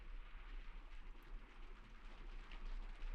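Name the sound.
rain falling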